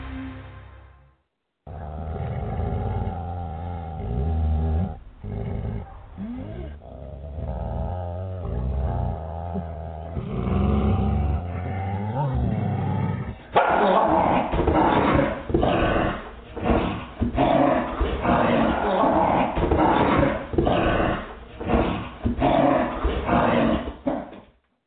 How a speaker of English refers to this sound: Did you hear that, folks? Did you hear those snarling dogs? Well, I didn't play it because of snarling dogs.